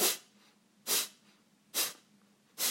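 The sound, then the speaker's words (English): Four sharp, forceful bursts of breath pushed out through the nose in a breathing exercise, the belly pulled in toward the spine with each pump, evenly spaced about a second apart, each a short loud hiss with quiet breathing between. No one speaks. “So I'd inhale and then blow out through the nose.”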